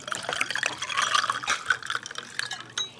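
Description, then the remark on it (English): Water pours steadily into a glass for about three seconds, a gurgling splash whose tone shifts as the glass fills, with no voices. “Would you like some water? Yes, please.”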